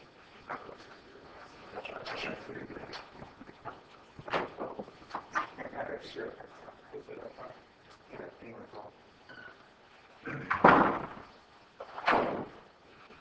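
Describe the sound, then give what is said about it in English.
Council chamber doors open and members of the public file back into the council chamber, with shuffling footsteps, rustling and murmuring, then a couple of louder thumps and bangs near the end. “All right, we are back to you with two proposed labor agreements, one for the doors again and inviting the public back into the council chamber, and we'll wait until they're back in the room.”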